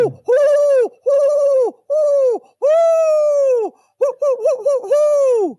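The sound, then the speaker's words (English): A person imitates an owl's hoot with a series of loud, drawn-out "hoo" calls, four steady ones followed by a quicker, wavering run of hoots. “Please be impressed by my owl impersonation.”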